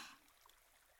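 A small stream flows with a soft, steady trickle and hiss of water, briefly a little brighter at the start, then even and fairly quiet throughout, with no voices.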